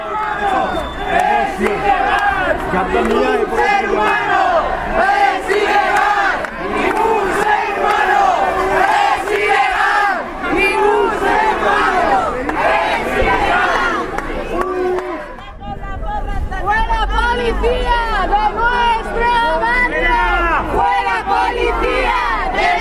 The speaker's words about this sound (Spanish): vecinas y vecinos comenzaron a proferir gritos como «Ningún ser humano es ilegal» o «La policía invade nuestros barrios»